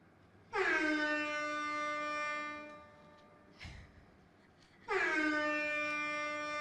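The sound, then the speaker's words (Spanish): Two long, loud horn blasts, each held steady for a couple of seconds with a rich harmonic drone, separated by a short gap with a brief thud in between. “Truenos, sonido de bocina.”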